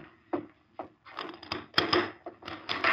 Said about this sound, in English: Hey. Rusk opened the door wide. A masked man stood in the doorway with a Colt in each hand.